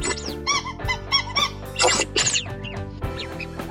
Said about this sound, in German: Es gibt verschiedene Quietschventile in den Enten, die haben jeweils ihren eigenen Klang. Und es gibt vor allem in Amerika Badeenten ganz ohne Quietschventil und die quietschen dann überhaupt nicht.